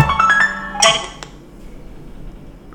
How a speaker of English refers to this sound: Okay, I'm dialing now. Okay, iPhone's ringing. FaceTime's ringing.